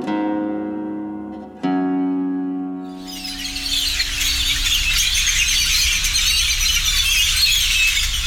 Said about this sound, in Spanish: Tordo ojo rojo, de nombre científico Molothrus aeneus, pertenece al orden Passeriformes y a la familia Icteridae. Esta especie mide de 16 a 22 centímetros de largo.